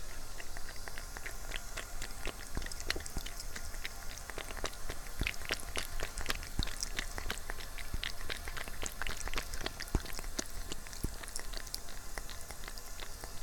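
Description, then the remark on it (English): A pet cat lapping water in a bathroom: quick, irregular wet clicks and smacks repeating steadily for several seconds over a soft, constant background hiss, with no talking. “Here, listen to my cat drink.”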